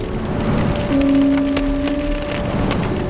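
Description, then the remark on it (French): Storm wind heard from inside a house: a steady, full rushing roar with faint crackles, and a low, even whistling tone that rises in the middle and then fades. No one speaks. “Et oui, c'est le vent de la tempête à l'intérieur de la maison.”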